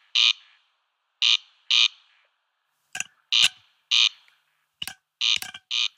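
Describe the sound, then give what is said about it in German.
A corncrake's dry, rasping double call repeats in loud, harsh bursts, paired notes at steady intervals, clear with sharp clicks in between and no talking. “Das ist der Wachtelkönig. Auf Latein Crex Crex, auch sehr gut sein Gesang abbildet.”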